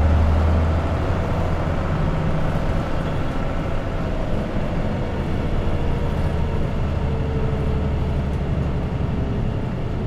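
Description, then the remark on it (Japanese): Steady low engine rumble and road noise fill the inside of a moving Japanese city bus bound for Nankai Ferry via Hatamachi Okunotsu Elementary School, a constant droning hum with faint rattles and no voices, holding at an even level throughout. “このバスは畑町奥ノ津小学校前経由南海フェリー前行きです。”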